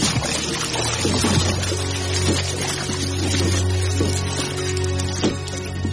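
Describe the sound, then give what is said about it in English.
Oars splash and dip through water in a steady rhythm, roughly once a second, as a dinghy is rowed out to a rock, over a constant low rumble and wash of moving water. No one speaks. “Pirates! And they're rowing out to the rock.”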